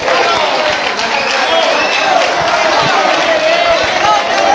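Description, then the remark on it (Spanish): A large crowd of bullfighting fans roars and cheers continuously at a bullring, a dense wash of many voices with occasional higher shouts rising above the steady, loud din. “Ahí tiene el sonido. La afición.”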